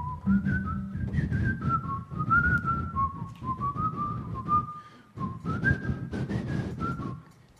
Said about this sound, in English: There's a song there. I put an iPhone and I just kept going on it. So it's called Whistle Through Adversity. And if you ever have a hard time in life, whistle.